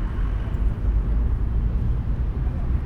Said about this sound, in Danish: Vi smutter udenfor på gaden på den trafikerede 6. december.